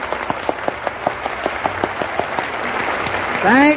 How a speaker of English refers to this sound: Oh, Frank, that applause wasn't for you. It was for Gus Kahn here.